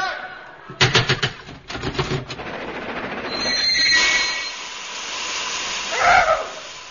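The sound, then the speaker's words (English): A steam train chugs with a quick run of loud, breathy puffs, then settles into a steady hiss and rumble, with a brief high whistle-like tone partway through. “Oh, Huff-Puff train.”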